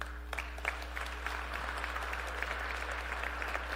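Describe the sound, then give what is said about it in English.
Steady applause from a large group cheering for people in their twenties after a prayer, a dense wash of clapping with a few sharper claps and faint cheers mixed in, holding at an even level throughout with a low steady hum beneath. “Why don't we cheer the 20s?”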